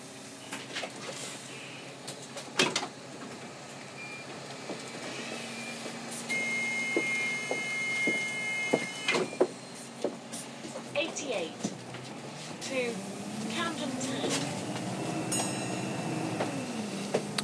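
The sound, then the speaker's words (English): Steady rumbling noise inside a moving bus with engine drone, rattles and occasional clunks and squeaks, passengers talking in the background. “iBus is trying to get in a position on the bus where you can actually hear the announcements, because it's one thing having them, it's another having them loud enough that you can hear them above the engine or above people talking or whatever”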